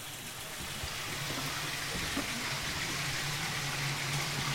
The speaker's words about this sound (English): that water that you hear, Robert, never stops. That's constantly flowing, naturally spring-fed, straight into the River Stour.